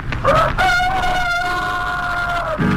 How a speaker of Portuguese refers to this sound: A gente pensa que ao romper do dia o galo canta pra saudar o sol. Mas quando canta o galo diz somente: se eu tivesse dente, só usava Eucalol.